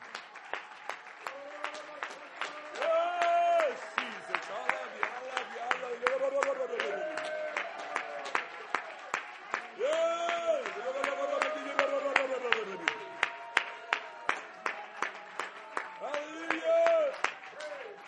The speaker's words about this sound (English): Would you clap your hands to Jesus? Would you shout unto the Lord for a moment?